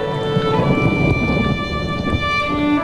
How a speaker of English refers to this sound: Now droplets of water form ripples on a puddle's surface.